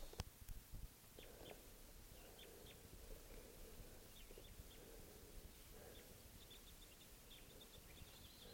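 Scattered high chirps and soft calls from a flock of birds foraging, intermittent and fairly faint, over a steady low rustling outdoor background, with no one speaking.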